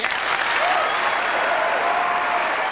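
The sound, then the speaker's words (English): Steady applause from an audience for Dr. Richard Alley's statement that it is easier to prevent carbon from entering the atmosphere, a dense wash of many hands clapping at an even loudness throughout, with a faint murmur of voices mixed in. “It is easier, Dr. Richard Alley says to applause, to prevent carbon from entering the atmosphere in the first place.”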